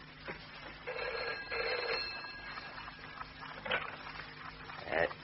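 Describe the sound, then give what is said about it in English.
An old-fashioned telephone bell rings at 4:30 in the morning in two long, rattling bursts, clear, followed by a few quieter clicks and knocks. “Phone? At 4:30 in the morning.”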